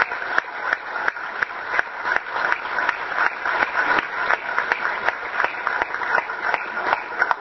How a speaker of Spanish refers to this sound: No nombré ex officio a nuestro conferencista invitado, el economista Álvaro García, para recibirlo con un fuerte aplauso. Entonces, ahora sí, le damos ánimo y calor.